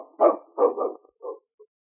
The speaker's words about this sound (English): Watch him, King. Keep that dog away